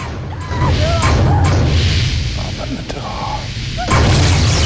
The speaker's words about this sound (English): The hatch Peters just closed is being dented from outside.